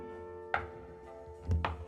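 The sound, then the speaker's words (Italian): Loud knocking on a door is demonstrated, as at a hotel room door at night: three heavy knocks, one single thud, a pause, then two quick blows in succession, over a steady humming tone. “E dice: invece mio figlio una notte in albergo è uscito dalla camera e non me ne sono accorta, e poi sento qualcuno che bussa forte, così.”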